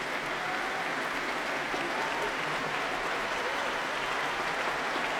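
A concert crowd at the Proms applauds steadily after a performance of Beethoven's Violin Concerto, a dense, continuous wash of clapping with scattered cheers mixed in, holding at an even level throughout without anyone speaking.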